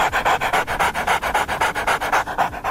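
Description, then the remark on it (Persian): Breathy, panting laughter from a tickled ape: a rapid, steady run of about a dozen and a half huffing in-and-out breaths, fairly loud, with no talking. “البته میمون‌ها چون دستگاه صوتیشون فرق میکنه، صدای خنده‌شون بیشتر شبیه نفس نفس زدن سگ یا کسی که حمله آسمی بهش دست داده.”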